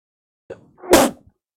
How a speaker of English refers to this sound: Sorry, I sneezed and I was unable to mute the microphone.